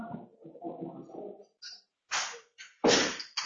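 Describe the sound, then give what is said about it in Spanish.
A door is closed before a class: a soft murmur of background noise, then a few sharp, loud clacks and thumps as it closes and latches, the last impact the strongest. “Voy a cerrar la puerta porque se escucha mucho ruido de.”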